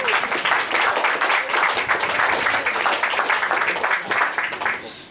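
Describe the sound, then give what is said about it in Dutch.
An audience applauds steadily at a Plein Publiek recording for the launch of the series Maxima, a dense wash of many hands clapping at a loud, even level throughout, with no voices standing out above it. “Applaus, denk ik, toch?”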